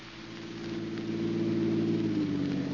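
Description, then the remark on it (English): The Major's big car at the door runs its engine steadily with a low, droning hum, holding at a constant level, with no voices over it. “There's a big car at the door.”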